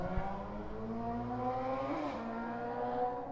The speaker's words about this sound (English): That was whack. Some slow truck and a slow ass motorcycle. Yeah. But they only went like 50 feet.